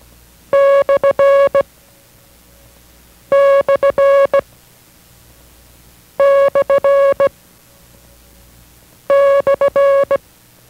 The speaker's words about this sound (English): This is the slant sign. Listen carefully to the sound of the slant sign in the International Morse code.